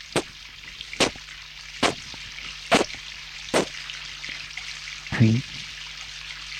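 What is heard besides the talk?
shower water running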